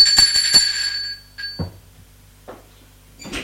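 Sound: doorbell ringing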